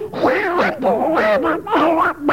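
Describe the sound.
A voice does a Donald Duck impression, saying "Simple Simon met a pieman going to the fair" as fairly loud, garbled quacking babble spluttered in quick continuous bursts with brief dips, for a couple of seconds.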